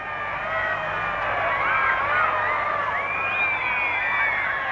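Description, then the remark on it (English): A large crowd at the Southern Cross screams and shrieks in a continuous, frenzied roar as people are trampled and horses push the crowd back, many high voices overlapping without a break, loud throughout. “Everyone's going completely mad. People are being trampled in the crowd.”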